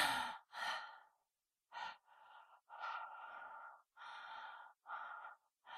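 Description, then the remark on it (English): Heavy, nervous breathing: about eight loud, breathy inhales and exhales in an uneven rhythm, a couple sharp like gasps, with brief pauses between and no talking. “I know I'm breathing heavy.”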